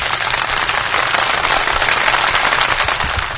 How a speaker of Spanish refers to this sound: Y lo recibimos con unos fuertes aplausos a las dos chicas.